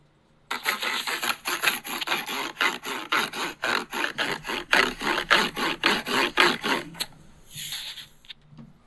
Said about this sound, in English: What do you think that sound was? That was the sound of me rubbing my Kinect onto some cardboard.